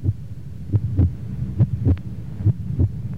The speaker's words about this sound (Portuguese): A frequência cardíaca é acelerada.